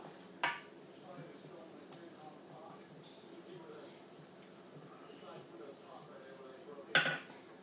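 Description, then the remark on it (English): Beans with cayenne pepper being stirred with a wooden spoon in a cooking pot: a sharp metallic clink of spoon against pot at the start and another near the end, with soft, quiet scraping and shuffling in between. “Give it a stir.”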